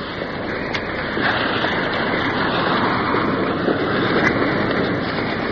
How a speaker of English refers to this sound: Coming up to the first waterfall. Pouring into a deep pool.